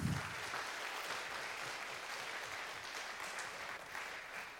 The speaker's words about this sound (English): So please give him a very warm applause and let's listen to his talk.